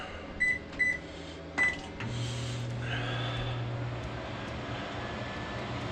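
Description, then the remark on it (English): A few quick electronic beeps and a click, then a large LG microwave oven starts up with a steady low hum and whirring drone that continues evenly to the end, while the household's electricity use is being tested. “The microwave is running.”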